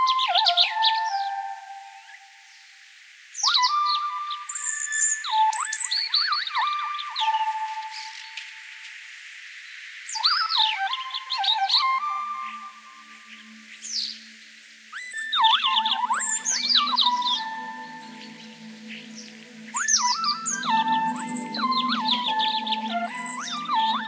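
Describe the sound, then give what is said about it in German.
Electronic synthesizer tones replay a bird's song one to one from a transcription into musical notes, with rapid chirpy phrases, sliding whistles and warbling runs repeating in bursts, plus a low droning undertone in the second half. No one speaks. “Genauer, du hast die Singstimmen in Noten transkribiert und diese dann mit Synthesizern 1:1 nachgespielt.”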